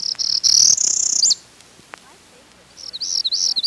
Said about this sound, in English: Perula warblers nest in the usnea lichen hanging from old spruce trees. Their song zips upward.